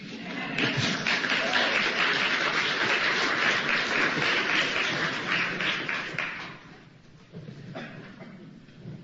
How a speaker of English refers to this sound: Do I hear applause?